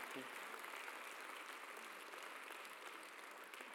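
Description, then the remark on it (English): A church audience at Flat Creek Baptist Church claps steadily and densely for several seconds as a clap of praise, a continuous wash of applause that stays loud throughout with no voices standing out. “If you agree with that, can you give a clap of praise, a wave?”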